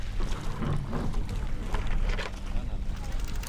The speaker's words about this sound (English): A group of kayakers plus one paddleboarder set off from Scow Bay, splashing through the Wrangell Narrows in front of town.